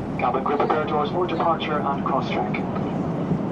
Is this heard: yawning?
no